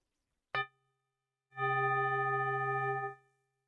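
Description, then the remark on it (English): A root chakra singing bowl is chimed once, giving a bright metallic ring with layered overtones that fades quickly, then a steady, sustained humming tone sounds for about a second and a half. “So I'm going to play the bowl. I'm going to play it for you two ways. So you can just chime bowls.”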